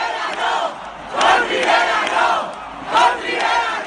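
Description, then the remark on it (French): A large crowd of PSOE party supporters, celebrating the election victory in the evening at PSOE headquarters, chants a rhythmic slogan in unison, voices swelling in loud repeated bursts about once every second and a half, with a constant roar of many voices between the peaks. “Et oui, d'abord côté socialiste, il y a ce message très clair, scandé par la foule des militants venus fêter la victoire hier soir au QG du PSOE.”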